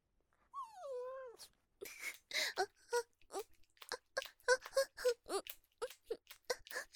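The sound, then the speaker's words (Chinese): A person imitates a whimpering female dog with a single drawn-out, wavering whine lasting about a second, followed by a string of quick, choppy vocal sounds. “聪明吧，血母狗叫很像是吧，你家主人都被我骗过了，以为是条骚母狗进来了呢。”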